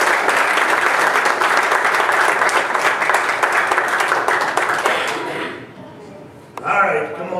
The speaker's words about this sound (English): Give him a hand of applause.